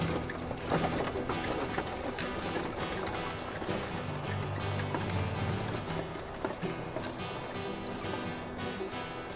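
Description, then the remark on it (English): Horse hooves clip-clop steadily alongside the creak and rattle of a wooden wagon as the horses pull it away across the prairie, a dense, continuous rhythm with low rumbling underneath, no voices present. “She clicked her tongue, and the horses pulled away across the prairie.”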